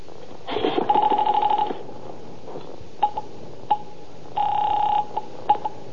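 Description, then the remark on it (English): A telephone is picked up and dialed to call the police: a buzzy burst with handset clatter, scattered sharp clicks, then another short tone and a few more clicks, clear with no one talking. “I reached for the phone.”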